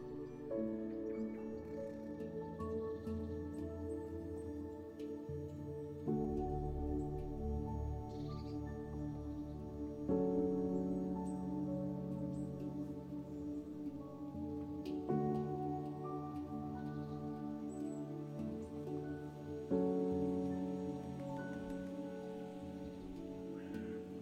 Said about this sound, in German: Das Wasser gluckert leise und erzählt von einer Gelassenheit, die du jetzt spüren darfst.